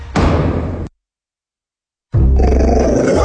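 A two-year-old pit bull dog growls and roars in two loud bursts separated by a second of silence, deep and rumbling with harsh, throaty texture.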